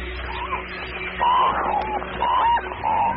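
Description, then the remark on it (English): Harsh, croaking cormorant calls come in three loud bursts over a steady din of a crowded colony of about 500,000 birds, with more birds calling faintly in the background. “To add to his confusion, more cormorants just keep coming.”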